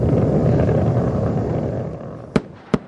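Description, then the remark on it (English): A space shuttle's twin sonic booms as it arrives at the launch site in pre-dawn skies, having gone subsonic for the last time: two sharp, loud cracks in quick succession, each under half a second apart, breaking through a steady low roaring rumble that slowly fades beforehand. “Piercing the pre-dawn skies, the space shuttle announces its arrival at the launch site with its signature sound of twin sonic booms having gone subsonic for the last time.”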